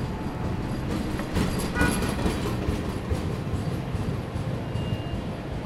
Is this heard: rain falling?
no